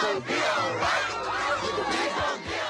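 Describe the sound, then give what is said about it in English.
A large protest crowd at a rally in Cleveland chants the slogan "we gonna be all right" in unison, many voices shouting together loudly and steadily, dense, filling the whole moment with no break. “There was a rally in particular in Cleveland where somebody from the crowd started chanting, we gonna be all right. And that becomes a chant.”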